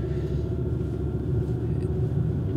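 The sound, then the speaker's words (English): A steady, low rumble fills the inside of a moving car driving toward Harborview School, a constant deep drone from the road and engine with no voices and no breaks over a few seconds. “I'm in my car heading towards Harborview School.”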